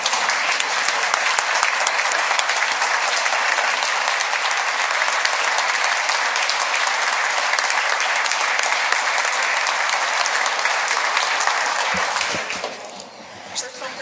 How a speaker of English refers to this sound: And she's been a very valuable person to us in Yankton County and a veteran, and I'd like to have you please give your applause for her, please.